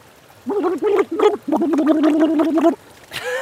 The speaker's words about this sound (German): Okay, das war schon mal so, wie man im Wasserglas ein bisschen reinprustet. Musik, ich weiß noch nicht. War jetzt noch nicht wirklich Musik, ich gebe es zu.